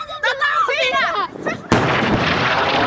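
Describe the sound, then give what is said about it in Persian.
Anguished wailing and crying voices in the Gaza Strip rise and fall, then a sudden loud explosion from Israeli airstrikes cuts in, followed by a sustained, noisy roar that fills the rest of the moment. “همراه با صدای انفجار و تلاش ها برای یافتن نجات یافتگان احتمالی از زیر آوارها.”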